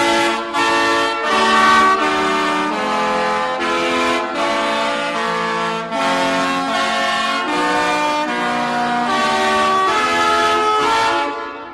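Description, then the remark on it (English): A chorus of loud truck horns, from trucks each fitted with 13 horns as a diesel-powered musical instrument, blares out a melody in Detroit, sustained brassy tones shifting pitch note by note in a steady rhythm for about twelve seconds, with no talking. “The sounds of a symphony of truck horns this past weekend in Detroit.”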